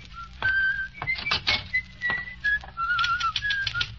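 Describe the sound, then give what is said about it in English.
A typewriter in an office clacks in irregular bursts of keystrokes while someone whistles a wavering tune over the typing, both fairly clear. “Hey, was that the typewriter I heard or your little heart pounding for me?”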